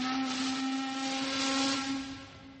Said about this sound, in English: The whistle screeched out noisily.